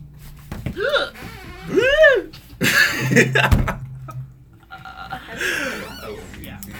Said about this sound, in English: 2 years ago, I went to Amsterdam for the first time, and since I've been back, I've been hiccuping like this.